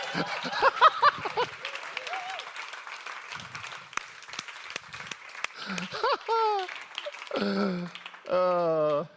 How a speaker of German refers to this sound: Okay, bevor du Predigen anfängst, Applaus.